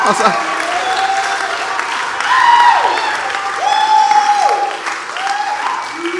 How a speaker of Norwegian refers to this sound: Så utrolig godt å se dere. Touchpoint tilbake. Og jeg synes det ja, dere kan gjerne klappe litt for det.